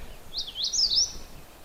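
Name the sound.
magnolia warbler song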